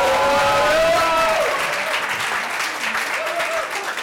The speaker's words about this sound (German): So, und jetzt müssen wir wieder so einen kleinen Trommelwirbel machen. Ja, bitte, alle klatschen nochmal kurz.